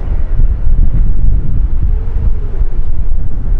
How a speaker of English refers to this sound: Fuck, dude, it is really windy.